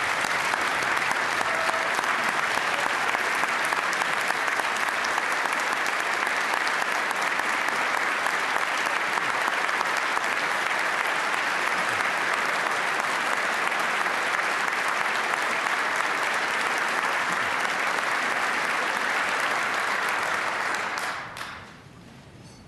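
Steady, dense applause from a large audience, loud and sustained for about twenty seconds before quickly tapering off into quiet at the end.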